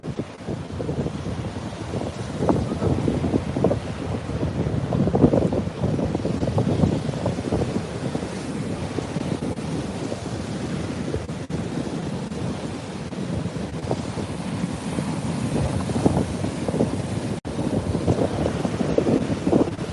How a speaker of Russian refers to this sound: Идем, идем по песочку.